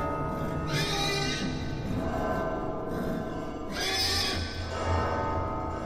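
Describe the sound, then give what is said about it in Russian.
An exhausted mare gives two strained, shrill whinnies a few seconds apart, loud, over a steady low rumbling background, with no voices, as she is whipped and kicks out in weakness. “Кобыленка в бессилии начала легаться.”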